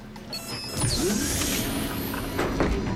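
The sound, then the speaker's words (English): A mechanical sliding door whooshes open with a smooth motorized hum and faint rising whine, sustained for a few seconds at moderate loudness with no one speaking. “Madeline grins and pats Sam's shoulder as the door slides open.”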